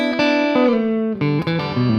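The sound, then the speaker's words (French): A clean, dry electric guitar with no reverb plays a short phrase of struck chords and notes, each ringing with bright harmonics before the next change, at a steady, fairly loud level with no voices. “Voilà, donc on n'a pas de réverb, donc ça sonne un peu sec comme ça.”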